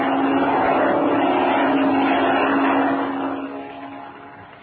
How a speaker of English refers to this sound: It's a plane, Chuck. There it is. A black one. Flying directly this way.